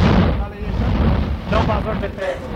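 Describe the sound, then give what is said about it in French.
A volcanic crater erupting: a loud, continuous low roar that churns and surges, with rough bursts swelling around the middle and again near the end. “Évidemment, c'est un cratère en éruption que nous venons d'entendre.”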